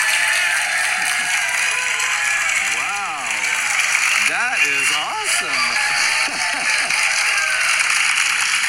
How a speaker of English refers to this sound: So let's have a round of applause for Dr.